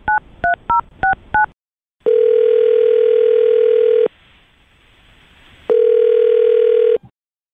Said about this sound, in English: Well, I'll dial his phone number right now, and we'll find out if your hands can wander his body someday.